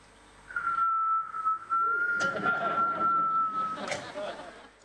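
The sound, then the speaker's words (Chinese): A single sustained whistle holds one steady high pitch for about three seconds, fairly loud, with some muffled voice-like sounds and background noise beneath it toward the end. “有没有听过沉默的声音？有时像口哨一样。”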